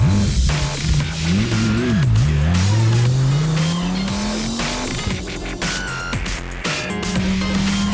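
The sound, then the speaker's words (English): A car engine revs up, its pitch climbing steadily as the vehicle accelerates away, with a brief tire squeal and a sustained loud engine drone, no voices present. “Should we go driving?”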